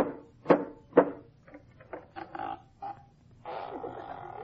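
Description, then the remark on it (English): Two sharp, solid knocks on a wooden door about half a second apart, followed by a jumble of softer muffled sounds and a brief burst of noise. “No, I knocked.”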